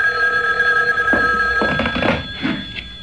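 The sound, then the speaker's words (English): A telephone bell rings steadily and loudly, its bright metallic tone sustained throughout, with a few soft bumps and footsteps-like knocks underneath toward the end. “The phone. At this hour?”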